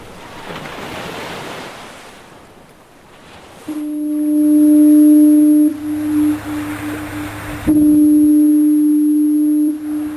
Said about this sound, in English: Lighthouse Foghorn there at Owl's Head, the coast of Maine.